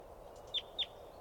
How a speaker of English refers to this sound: Wild. Wild. Wild. That was the wild one chittering and coming down. It's an adult female.